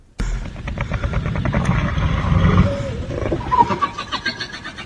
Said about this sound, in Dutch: Nou, een beetje een zeehond misschien op het eind. Ja, ja. Een zeehond met krakend ijs.